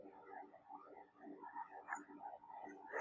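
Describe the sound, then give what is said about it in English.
A dense chorus of many frogs croaking at once, overlapping rhythmic calls filling the scene continuously at a moderate level, with no voices present. “The land covered with frogs.”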